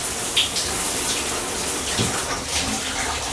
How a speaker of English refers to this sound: Then she was into the shower, twisting the knob for a hard, pulsing spray.